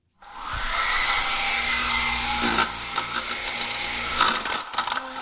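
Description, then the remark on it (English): A small remote-controlled helicopter motor starts abruptly and whirs steadily at a high, buzzing pitch, holding loud and even for several seconds before wavering and sputtering slightly near the end. “And that's my remote-controlled airplane helicopter.”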